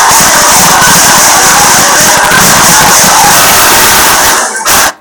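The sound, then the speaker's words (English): A loud, unbroken din of many German Shepherds barking over one another in a kennel, a dense chaotic wall of noise that breaks off abruptly just before the end. “Typical German Shepherd. Walk through a kennel and they're like, ah, God, that's so much fun.”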